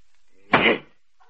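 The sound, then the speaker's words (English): A single sharp crack of thunder bursts out loud for a moment and then cuts off quickly, with no long rolling rumble after it and no voices, as it starts raining. “Boss, that ain't no echo. That's thunder.”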